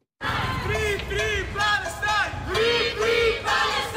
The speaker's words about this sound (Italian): L'avete sentito nei titoli, anche a Lugano ha richiamato centinaia di persone la manifestazione spontanea contro l'intercettazione della Global Sumud Flotilla.